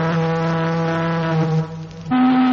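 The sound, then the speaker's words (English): Another ship's foghorn blares in thick fog: a loud, deep, sustained note, dips briefly, then returns on a higher, steady pitch. No one speaks. “The Echo is back. It's another ship.”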